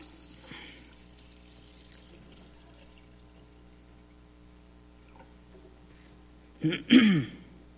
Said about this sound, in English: one of the tasks he had was to pour out water. And he was up there ready to pour out.